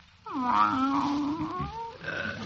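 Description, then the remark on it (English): A person's voice imitates a cat, giving a drawn-out, fairly loud growling yowl lasting over a second, followed by a shorter cat-like sound. “It's coming over me. That Persian cat feeling.”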